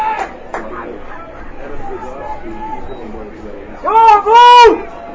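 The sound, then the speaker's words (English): A steady crowd murmur at a football game involving Tewksbury gives way to two loud, high-pitched yells right at the microphone, each a sustained voiced shout lasting under a second, overpowering the background chatter. “Why does it sound like somebody's yelling right in my ear? Because somebody is right there.”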